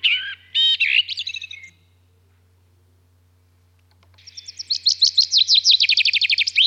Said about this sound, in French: Alors, juste quelques exemples pour vous mettre un petit peu dans l'oreille des différences entre espèces. Le merle, qui doit vous être familier.